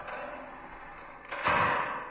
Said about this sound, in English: I think we're in an elevator. Watch out. The doors are closing.